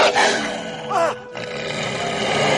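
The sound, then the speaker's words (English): A great wolf snarls and roars aggressively, loud, in a harsh, rasping growl that surges, briefly dips, then carries on without a break for a couple of seconds, as it attacks a boy in a village street in winter. “when delivering a message up the village street, was attacked by a great wolf.”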